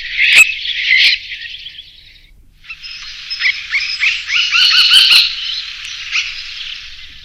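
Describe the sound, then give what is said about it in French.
Harsh, rasping golden oriole alarm calls in a continuous scratchy stream, with brief sharp clicks, briefly pausing then resuming louder, alone with no voices. “Et c'est le même. Et souvent, on ne sait pas que c'est lui, hein. C'est-à-dire que si on ne connaît pas les cris des alertes... Et ça, c'est le loriot.”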